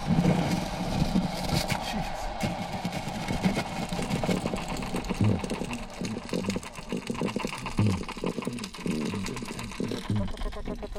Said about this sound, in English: Sound is a silver perch. It sounds like chickens cackling. The boom, boom is a black drum. The is a spotted sea trout. So we have three species of cyanids, drums and croakers producing sound at the same location here.